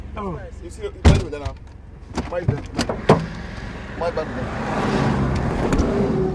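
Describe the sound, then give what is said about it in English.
At a security checkpoint in Nigeria's Niger River Delta, a policeman with a rifle climbs into a car with a shuffle, the door slams shut loudly, then a few more clunks as the vehicle's rumbling road noise builds. Voices talk throughout. “We were stopped at a security checkpoint, and a policeman with a rifle jumped in our car.”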